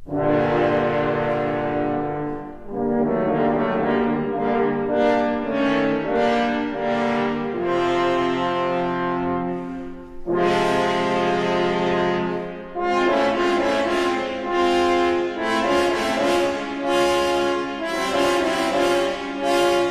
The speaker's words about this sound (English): The wolf is represented by three French horns.